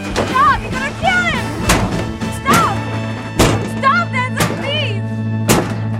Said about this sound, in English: Enzo pulls a gun on Denzel, who punches Enzo and throws him into trash cans. Denzel grabs a lid, then beats Enzo with it.